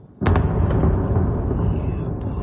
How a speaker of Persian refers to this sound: ساکنان اودسا یک شنبه با صدای انفجار از خواب بیدار شدند.